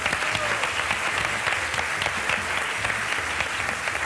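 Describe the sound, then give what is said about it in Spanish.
An audience claps for an actor and comedian, steadily and densely for about four seconds, a bright, continuous wash of many hands at an even loudness with no voices on top. “Un aplauso para él.”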